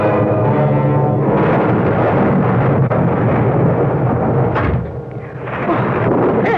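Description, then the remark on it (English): A heavy rain downpour roars steadily and loudly from start to finish, a dense hiss with deep rumbling underneath that eases briefly near the end before surging back. “let's get you out of that rain and a fine welcome home.”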